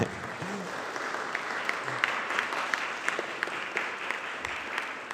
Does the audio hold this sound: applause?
yes